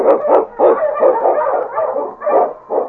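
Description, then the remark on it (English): A husky sled dog, King, the Eskimo dog of the radio show The Challenge of the Yukon, barks and yips in a rapid, excited series of loud bursts, some running together, with no voices present. “The Wonder Dog King, swiftest and strongest of Eskimo dogs, blazes the trail through storm and snow for Sergeant Preston as he meets the Challenge of the Yukon.”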